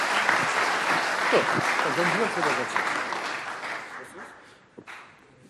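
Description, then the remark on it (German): A crowd of people applauds together, dense steady clapping that slowly thins and fades toward the end, with a few voices murmuring underneath. “Das dürfte alle klatschen.”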